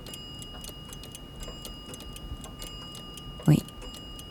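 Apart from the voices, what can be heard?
pendulum clock ticking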